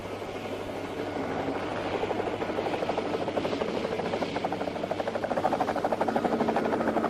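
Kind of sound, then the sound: vehicle, helicopter rotor noise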